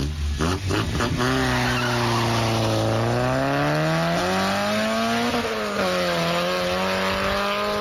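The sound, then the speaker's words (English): A loud car engine revs hard and climbs in pitch as tyres squeal and skid, the roar rising and wavering over several seconds, with no one talking. “That sounds like a car that the guys who are about to come through this door wouldn't dream of getting into.”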